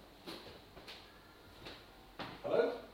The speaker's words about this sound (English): Bang on the right. Bang on the door.